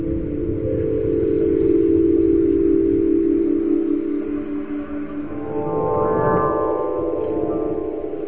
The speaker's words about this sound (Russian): А дальше все происходило само собой. Ветер дул, арфа играла. Когда дуновения были слабыми, инструмент звучал тихо и нежно.